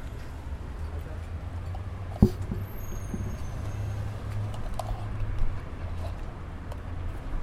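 Low engine rumble from cars idling and stopping on a street around the speakers, with a sharp knock partway through and faint brake squeals above the steady traffic drone.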